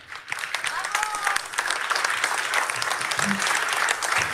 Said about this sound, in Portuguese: nosso diretor da antena, que merece também uma grande salva de palmas, por favor.